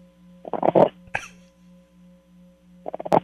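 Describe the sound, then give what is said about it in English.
A pug named Bugsy snorts and snuffles in three rough, wheezy bursts separated by short pauses, over a steady low electrical hum. “His pug.”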